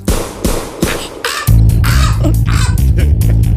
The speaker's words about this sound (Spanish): ¡Inspector! esta gaviota que quiere quitarte el bocadillo. ¡Largo de aquí! ¡Largo de aquí, pajarraco, pajarraco del demonio! ¡Largo!